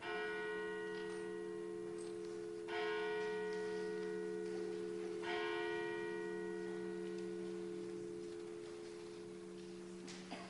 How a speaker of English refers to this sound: I'm going to ring the church bell now, and then we're going to move forward, okay?